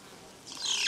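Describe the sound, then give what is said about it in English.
A short burst of high, thin bee buzzing swells in partway through and holds steady to the end, faint, with no voices. “Yes, there's more bees.”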